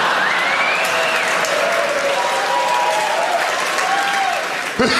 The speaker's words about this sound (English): Who's over 40 here? Listen to the misery in those cheers.